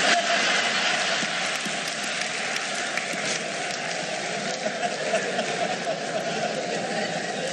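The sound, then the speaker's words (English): An audience applauds a joke steadily, a dense, even wash of many hands clapping that holds at the same loud level throughout, with no voices rising above it. “I've noticed that the men laugh at that joke, but the women applaud that joke.”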